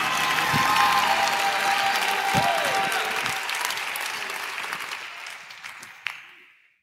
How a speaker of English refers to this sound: If you receive that today in Pittsburgh, if you receive that today in Fort Worth, clap your hands one more time. Give that Jesus a great big shout.